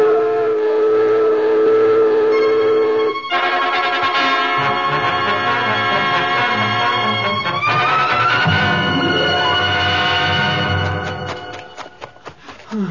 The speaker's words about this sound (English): Sound the alarm. I've given the signal. There it goes, sir.